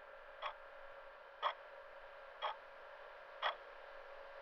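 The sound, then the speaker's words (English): A wall clock ticks steadily, five crisp, evenly spaced ticks about a second apart, over a constant low electrical hum, with no one talking. “The clock, it's moving. It's moving really fast.”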